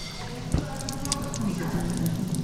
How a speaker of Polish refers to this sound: Płynie woda. Może jeszcze z drugiego zobaczymy. Będzie bardziej.